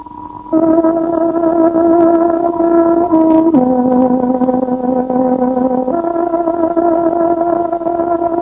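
A tárogató plays the Radio Free Europe hourly time signal marking 11 o'clock: a short, slow phrase of long, sustained reedy notes, shifting pitch a few times at a steady, fairly loud level, with no voices.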